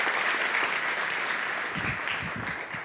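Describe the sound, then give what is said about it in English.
A crowd applauds steadily, a dense wash of many hands clapping at once, fairly loud and sustained throughout with no voices standing out. “So welcome them again. You already clapped, but I appreciate you guys so much.”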